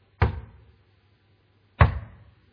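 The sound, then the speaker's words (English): Two loud, heavy knocks on a door, spaced well apart, each a forceful thud with a short booming decay. The pounding sounds threatening, with no voices. “All right, so when you come to the door, all right, it is important how you knock, okay?”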